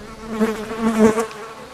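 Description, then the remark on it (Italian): An insect in a meadow buzzes steadily, beating its wings hard, a droning hum that swells and fades a few times over nearly two seconds, with no voices. “Alcuni di loro sbattono forte le ali per emettere suoni e farsi capire dagli altri.”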